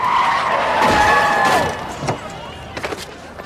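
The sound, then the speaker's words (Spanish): A turning taxi skids with locked wheels on a wet street, giving a loud, high, wavering screech lasting over a second, which fades into several sharp knocks and thuds as it hits a man on foot. “Dio unos pasos, absorto, dejó la acera y un taxi que doblaba hacia él patinó con las ruedas trabadas y chirriantes en la húmeda calzada.”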